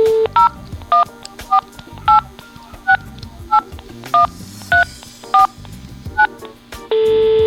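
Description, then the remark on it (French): A phone keypad dialing a number to call someone: a brief steady tone, then about a dozen crisp touch-tone beeps in quick, slightly uneven succession, ending as another steady tone starts. Clear, with no talking. “Voilà, donc j'ai mis le téléphone. Je vais appeler quelqu'un maintenant.”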